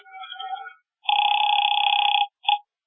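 A telephone bell rings loudly in one long burst lasting about a second, then a brief clipped ring follows. A softer, wavering tone comes just before it.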